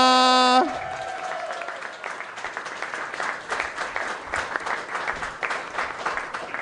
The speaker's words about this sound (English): Round of applause for my great friend, Luke McGregor!